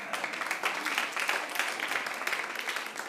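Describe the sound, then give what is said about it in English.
Audience applause in answer to a question of how many have grown children still asking them for money: a steady wash of many hands clapping at once, dense and continuous with small bursts throughout, moderately loud with no voices. “How many people have grown children still asking them for money by applause?”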